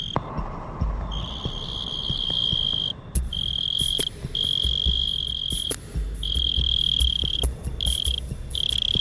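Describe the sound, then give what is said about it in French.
A mole cricket sings a steady, high buzzing trill in long unbroken stretches with brief pauses between them. It is loud, with faint low thumps underneath and no voices. “Aujourd'hui, la courtilière.”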